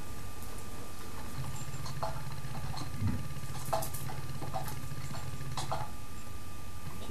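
Quick, irregular clicking of keys as a participant types a message on a keyboard during a call, steady over a low background hum, with no voices.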